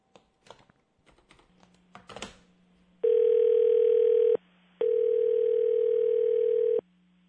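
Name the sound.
telephone dial tone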